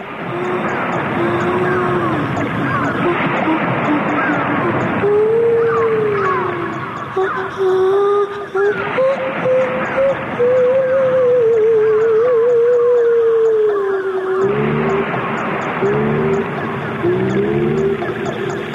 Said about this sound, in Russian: С тех пор космос заселен котиками, китиками и дельфинами.